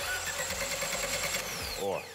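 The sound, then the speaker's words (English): An engine crankshaft, its counterweights dipped in motor oil, spins over with a steady mechanical whir and rhythmic clattering pulses, splashing oil onto the block, then its pitch sweeps downward as it winds down at the end. “Wanna give the engine a spin?”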